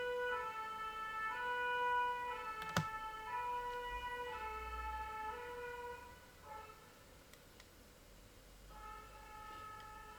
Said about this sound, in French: Voiture pompier